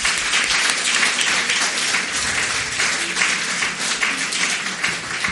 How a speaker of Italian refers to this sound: Per cui io gli farei un applauso di ulteriore incoraggiamento, perché ha parlato tutto il giorno già a Verona.